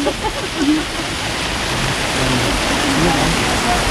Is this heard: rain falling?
yes